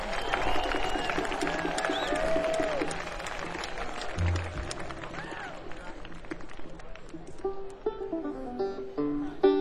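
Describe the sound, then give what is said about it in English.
A crowd at a bluegrass festival applauds the Planet Bluegrass organizers steadily for several seconds, a dense wash of clapping with scattered whistles and cheering voices rising over it, tapering slightly toward the end. “Give them a nice big round of applause.”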